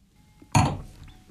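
wine glasses clinking

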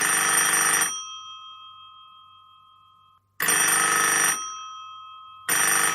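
telephone ringing

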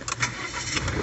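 car engine

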